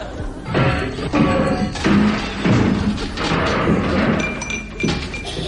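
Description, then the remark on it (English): A bicycle crashes into an office: a loud, jumbled run of heavy thuds, clattering and clinking glass that tumbles on for several seconds, with no one speaking. “You rode straight into my office.”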